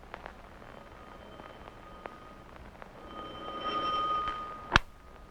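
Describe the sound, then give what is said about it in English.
A doorbell rings with a steady, bright tone that holds for about a second over a quiet background, then ends in a single sharp click. No one speaks. “Listen, there's the doorbell.”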